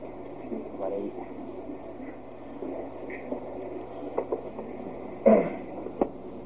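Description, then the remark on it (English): An air conditioner, just turned on during a talk before an audience, runs with a steady low hum throughout, joined by faint, indistinct voices and a brief clatter near the end. “We've just turned on the air conditioner, and the question in our mind somewhat is, can the people in the back hear perfectly all well over the noise of the air conditioner?”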